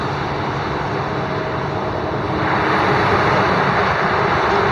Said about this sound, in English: Just northwest of the airport, so seeing planes taking off from Pearson Airport is a normal phenomenon here, a normal visual part of the sky.